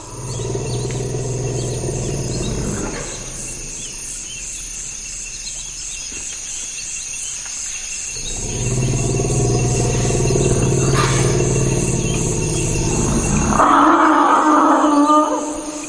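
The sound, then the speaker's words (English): Deep, sustained forest elephant rumbles rise and fade in long swells, then a brighter, louder elephant call breaks out near the end, all over a constant high-pitched chorus of insects in a swamp where forest elephants congregate and cool off, recorded by musicologist Louis Sarno in the Central African Republic in April 1994. “It's in a swampy area that forest elephants go to in order to congregate and also to cool off.”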